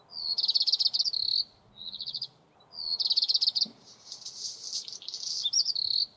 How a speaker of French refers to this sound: C'est un oiseau. Un oiseau.